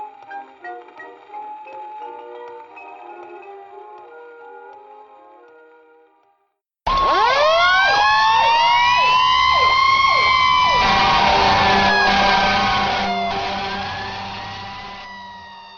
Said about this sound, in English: When you hear those sirens, do you say to yourself, "Wish I could do that"?